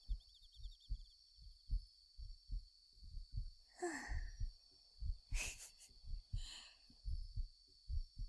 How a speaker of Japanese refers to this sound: 心臓の音、聞こえるかな？あ、本当に聞こえるんだ。